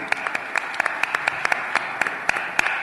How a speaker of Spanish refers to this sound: Para Patricia Navarro, lo aplaudimos como es natural.